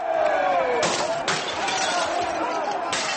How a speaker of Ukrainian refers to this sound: Протестуючі розбили вікна в будинку та вступили в сутички з поліцією.